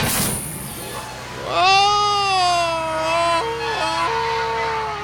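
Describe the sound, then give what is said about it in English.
A man lets out a loud, drawn-out Tarzan-style jungle yell, one sustained whooping cry whose pitch slides down and then yodels, breaking abruptly between high and low notes near the end. “That's my Tarzan yell.”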